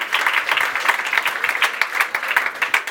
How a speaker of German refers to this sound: Ist das ein Applaus für die Hausfrauen gewesen? Vielleicht, von den Hausmannen.